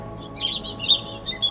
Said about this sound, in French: Un arbre au-dessus de moi, sur lequel est posé un oiseau qui chante.